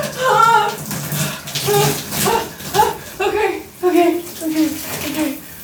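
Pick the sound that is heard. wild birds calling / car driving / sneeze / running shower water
running shower water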